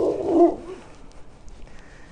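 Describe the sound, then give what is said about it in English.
A puppy gives one brief, high whimper lasting about half a second at the start, then the rest is quiet low background with no talking. “Hey, puppy.”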